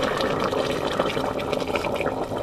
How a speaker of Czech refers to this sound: Pak zalijeme horkou vodou.